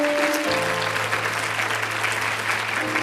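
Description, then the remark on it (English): A church audience claps their hands to praise God in steady, dense applause, loud and continuous throughout, with sustained organ-like tones underneath. “Can you clap your hands and give God praise one more time?”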